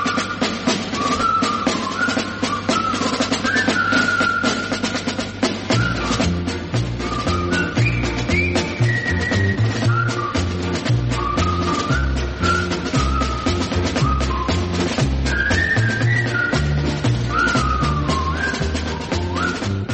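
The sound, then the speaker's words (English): The Colonel Bogey March, the theme of the 1957 film The Bridge on the River Kwai, whistled in bright, clear notes over a band accompaniment, with a steady oom-pah bass beat joining in after the first few seconds. “Alec Guinness in the top money-spinning Bridge on the River Kwai, which also breathed new life into the old Colonel Bogey March as a theme.”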